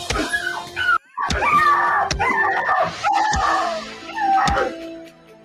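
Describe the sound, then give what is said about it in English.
A person voices a dog hollering in a film, a string of high, whiny yips and cries in close succession with short sharp breaks, loud with no other talk. “The way the dog hollered, no dogs man. Was harmed. It was like dog. That was like a person doing the voice.”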